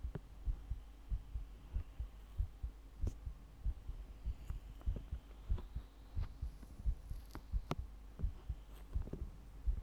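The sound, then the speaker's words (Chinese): A steady, muffled human heartbeat thumps in a regular lub-dub rhythm, soft low pulses repeating over a faint hum with no voices. “先生，只是让你听心跳，脸不可以来回蹭哦。”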